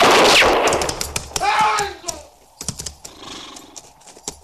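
A single loud gunshot fired by Hook cracks out and rings off, followed by a horse whinnying and a scatter of sharp clatters and hoof-like knocks.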